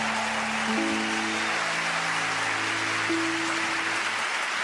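A crowd claps loudly and steadily for nearly five seconds, a dense, even wash of clapping with faint sustained low tones humming beneath it.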